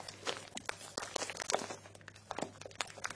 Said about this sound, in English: I haven't done it in a while, made candles, so I bought this bag of wax flakes, and I remember at the time the bag was really tingly, crunchy and nice.